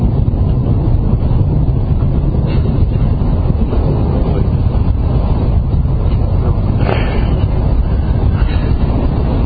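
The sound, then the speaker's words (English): A loud, steady low rumble of a passing train rolls on for the whole stretch, with deep roaring energy and faint rattling bursts on top. No one speaks. “Is that thunder or is it a jet? Huh? Oh, it's okay. Train.”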